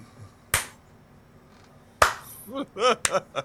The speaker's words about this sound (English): the slow clap. I love it.